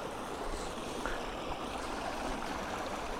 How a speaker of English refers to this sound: There's waterfall number 1, and waterfall, blinking heck, there's loads of them.